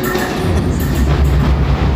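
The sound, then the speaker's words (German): A train rumbles past, a steady, loud low roar with rattling wheel noise that holds constant for the whole two seconds, with no voices. “Wird's raus, gefiltert und dann hört man vielleicht im Gegenzug eine Eisenbahn.”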